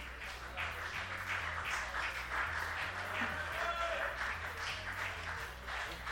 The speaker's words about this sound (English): Isn't it lovely that they give him a round of applause? Just a mention of his name.